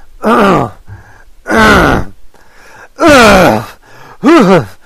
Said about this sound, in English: Hold on. I'm gonna clear my throat here.